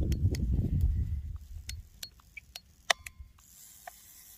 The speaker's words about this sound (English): oh, look, this is a landmine. I put this key in. That scared the shit out of me, that video.